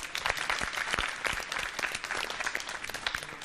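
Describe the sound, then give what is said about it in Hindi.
An audience claps steadily for a few seconds to encourage three competing teams, dense overlapping handclaps with sharp individual claps popping out, fairly loud and sustained with no talking over it. “हाजरीन से दरखास्त है जोरदार तालियों से इन तीनों टीमों की हौसला अफजाई फरमाए।”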